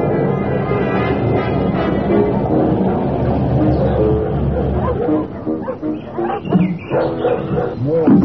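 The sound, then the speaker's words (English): A loud, dense chorus of many dogs, bred at the place, barking and snarling at once fills the first few seconds, then fades as people begin talking over a few remaining barks. “Dogs. You must just bring out the worst in them. Awful lot of them, yeah.”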